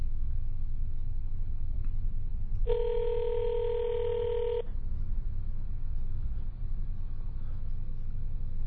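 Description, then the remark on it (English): A landline call rings out unanswered through a phone: one steady two-second ringback tone, a long pause, then the next ring just starting, all over a low, constant engine rumble. “He ain't gonna pick up. This is a landline.”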